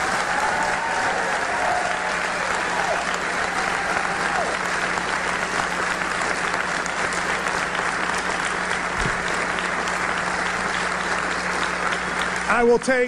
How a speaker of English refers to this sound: And to this great crowd, why don't we give all three of these a round of applause?